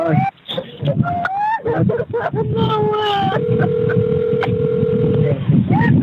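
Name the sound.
telephone keypad dialing tones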